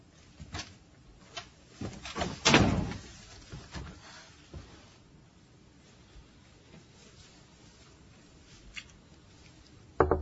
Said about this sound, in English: I guess you can close the door now.